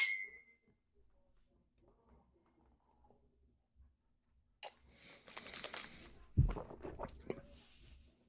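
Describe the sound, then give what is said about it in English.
A single bright, ringing clink of glasses in a toast during a rye whiskey tasting right at the start, followed by a quiet pause and then rustling and handling noises with a dull thump. “All right, man. Cheers. Cheers.”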